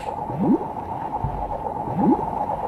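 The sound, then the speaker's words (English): Two soft, watery bloops of a jellyfish pulsing forward, about a second and a half apart, with a dull low thump between them, over a steady muffled underwater whoosh. No one speaks. “I watched a documentary that featured jellyfish, and one of the things that you hear every time they move, they sort of like, pulse forward, you'd hear this bloop.”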